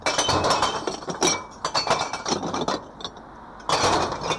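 Glass bottles crash and clink as they are tipped into a recycling truck, a loud, dense jumble of shattering and rattling glass over a low engine rumble, with bursts of clattering throughout.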